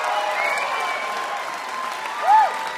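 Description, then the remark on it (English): An audience applauds steadily after a live concert for the radio station WXPN, a dense wash of clapping that holds an even level, with a short rising-and-falling whistle cutting through near the end. “Give them another hand.”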